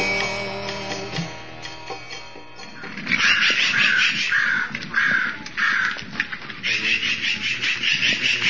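Loud, harsh crow caws repeat in a rapid series from about three seconds on, insistent, over a low background rumble with some faint indistinct voices earlier.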